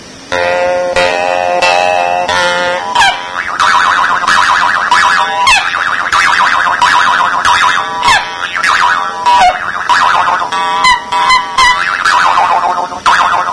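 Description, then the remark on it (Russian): A loud, reedy wind instrument plays sliding, wailing notes in quick repeated swoops, imitating the cries of seagulls. The calls overlap almost continuously, with no talking. “Ну, она же все вместе, чайки.”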